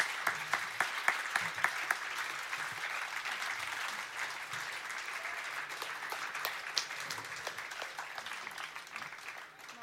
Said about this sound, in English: Bon, un super grand applaudissement pour tous les bénévoles et organisatrices.